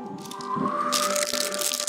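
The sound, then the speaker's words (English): A howling wind sound effect for radio, as a storm moves in, whistles in a steady, rising tone, then swells into a loud rushing gust with rattling noise underneath. No one speaks. “The wind howls.”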